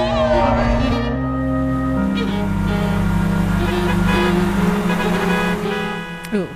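A car horn blares loudly and almost continuously, its pitch shifting a few times, with a rumbling background and a brief louder burst right at the end, from the trailer for the Italian coming-of-age film The Hand of God by Paolo Sorrentino, as something bad happens in a car.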